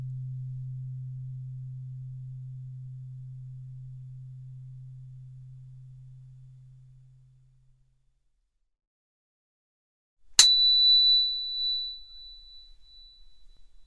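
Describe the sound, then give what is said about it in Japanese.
A steady low sine hum slowly fades out, then after a short silence a sharp click introduces a piercing, high-pitched pure tone that holds at one constant pitch until the end. “この音は天井の周波数、大地の周波数の32倍も高い音。”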